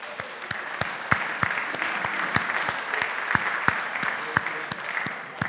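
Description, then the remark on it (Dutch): Sustained applause from an audience for the team of sisters who won a day of games played between teams of siblings, a dense steady wash of clapping with sharper individual claps popping out at a fairly regular pace throughout. “Een applaus voor hen.”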